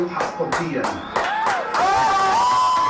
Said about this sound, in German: Die Familie vor dem Fernseher jubelt.